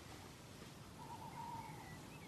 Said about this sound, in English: Tawny owl calling again now.